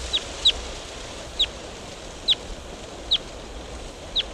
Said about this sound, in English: Wild bird. Flew to a different tree.